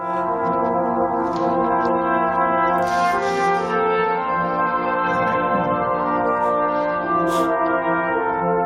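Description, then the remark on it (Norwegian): A sustained, buzzy brass tone from a sneeze blown into a trombone, with rich stacked harmonics, wavering and bending in pitch over about nine seconds, with brief breathy bursts layered on top, loud and steady throughout with no talking. “Hvordan høres det ut å snys? Altså, å nys i en trombone.”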